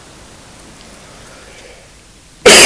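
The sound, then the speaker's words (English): A single sudden, loud cough bursts in at the very end, after a couple of seconds of quiet background hiss. “Sorry, I got a cough.”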